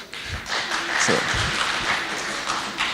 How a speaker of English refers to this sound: Can we have a round of applause for him, please?